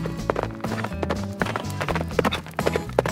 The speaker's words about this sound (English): The horse ran off at full speed.